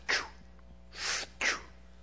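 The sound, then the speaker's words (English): A voice imitates a hospital breathing machine with three breathy, hissing bursts, a sharp puff, a longer steady exhale, then another sharp puff, with nothing else around them. “And I realized that they had put a breathing machine on him.”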